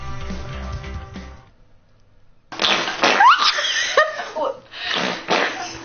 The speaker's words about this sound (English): Wow. Fart. Queef. Fart. It is a queef. Wow. Yes, that is a queef.